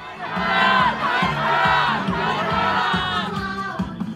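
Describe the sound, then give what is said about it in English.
A huge crowd of tens of thousands of opposition supporters besieging the front gates of the National Assembly building roars and chants continuously as legislators vote on President Yoon's impeachment, many voices overlapping in loud, sustained shouting with a rhythmic pulse of rising and falling cries. “So I'm now standing in the middle of a huge crowd of opposition supporters who are, I think the only word I can use is they are besieging the front gates, the main entrance to the National Assembly building.”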